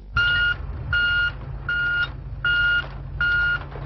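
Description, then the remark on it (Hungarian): A loaded garbage truck, bringing waste from Kisújszállás to the Kétpó landfill, backs up, its reverse alarm sounding five evenly spaced, loud electronic beeps over a steady low engine rumble. No one speaks. “A nyitás óta sorra jönnek a megpakolt teherautók.”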